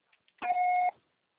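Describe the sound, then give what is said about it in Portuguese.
A voicemail recording beep: one steady, mid-high electronic tone lasting about half a second, loud and alone, preceded by a couple of faint clicks. “Grave seu recado agora.”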